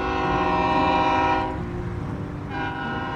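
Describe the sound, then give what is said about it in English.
A train horn blares loudly, a sustained harmonic chord that briefly drops away and returns, over the low rumble of a train passing at the Englewood rail yard, with no voices present. “Two blocks from Mister's home, the street dead ends into the Englewood rail yard. You can see the tracks from their kitchen window.”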